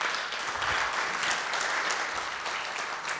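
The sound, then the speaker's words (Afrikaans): A crowd applauds steadily, many hands clapping for the Lord in a dense, continuous wash of sound that holds at an even loudness for a few seconds with no voices on top. “Dankie, ek geskeer die Here hande klap.”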